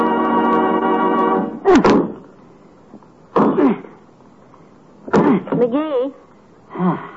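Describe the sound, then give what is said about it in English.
Axe blows strike a tree in a slow, steady rhythm, four sharp woody thunks spaced evenly apart, following a sustained tonal sound at the start, with a brief vocal sound after the third chop. “Why don't you keep chopping in the same place all the time?”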